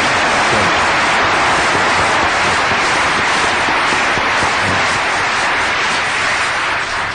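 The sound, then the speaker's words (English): Sustained, loud applause from a large church audience for the choir at a Christmas service, a dense wash of clapping that holds steady for about seven seconds with no voices over it. “And I want you to join me in a round of applause for the great choir behind me.”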